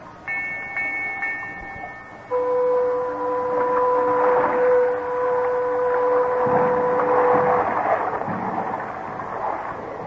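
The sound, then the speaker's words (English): A riverboat's sailing signal: a high steam whistle tone sounds first, then a lower, louder sustained horn blast takes over for several seconds, over a rumbling, churning background with no talking. “I gotta give the sailing signal.”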